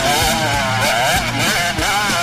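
A motocross motorcycle engine revs hard and loud on a track, its buzzing pitch climbing and dropping in quick waves as the throttle opens and eases, with no voices over it.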